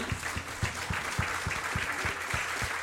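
An audience applauds steadily throughout, a dense wash of clapping with a regular rhythmic thump beneath it, as if part of the crowd claps in time.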